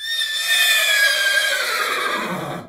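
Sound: horse neighing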